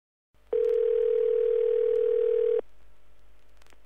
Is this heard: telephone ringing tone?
yes